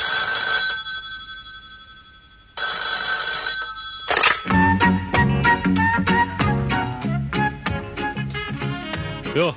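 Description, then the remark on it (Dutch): A telephone rings twice in bright, repeating electronic bursts with a brief pause between as a family is called for a telephone game, then lively music starts up and carries on loudly to the end. “Aan de telefoon weer een gezin dat zich opgegeven heeft voor dit spelletje.”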